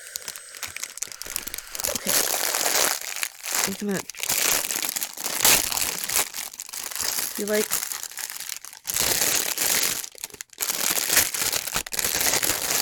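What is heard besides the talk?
plastic bag crinkling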